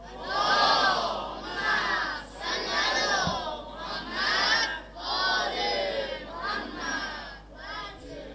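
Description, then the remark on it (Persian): A large crowd at a Fatimiyya gathering recites the salawat prayer loudly in unison, voices rising and falling in several rhythmic phrases that fill the space for the whole stretch. “یه صلوات خط بکنید که در شأن فاطمیه باشه.”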